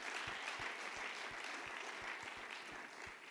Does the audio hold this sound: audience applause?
yes